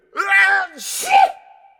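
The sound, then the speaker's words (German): A single loud sneeze: a voiced, wavering intake that breaks into a sharp, hissing burst, then trails off into a short, fading exhale. “Gesundheit.”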